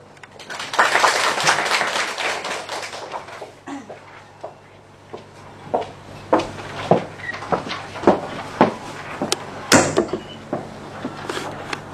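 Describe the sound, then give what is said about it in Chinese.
Warm applause at a lecture at Xiamen University's School of Food Science, welcoming Party Secretary Xiang Qi to give a welcome speech. It swells at the start, a dense crackling clatter of many hands for about three seconds, then fades into scattered taps and knocks, with no voices. “首先请允许我们用热烈的掌声欢迎向奇书记致欢迎词并讲话。”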